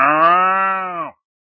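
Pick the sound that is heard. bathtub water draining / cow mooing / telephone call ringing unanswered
cow mooing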